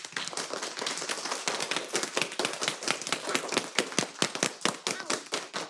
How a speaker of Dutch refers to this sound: Ik wil allereerst heel graag een heel groot applaus van en voor de leerlingen van groep Paars Zomerschool. Laat je horen.